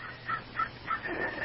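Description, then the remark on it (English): A crow caws several times in quick succession in a backyard, harsh repeated calls at a steady rhythm, fairly faint, with no one talking. “I said you have a crow in your backyard.”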